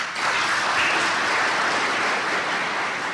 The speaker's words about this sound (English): At the end of the program, there was silence. Then explosive applause.